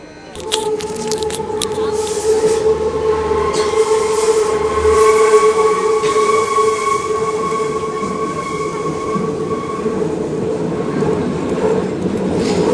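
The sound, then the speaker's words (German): An S-Bahn commuter train squeals loudly and steadily with high, sustained metallic tones over the low rumble of wheels on track, continuous throughout. “Quietschen tut sie anscheinend trotzdem.”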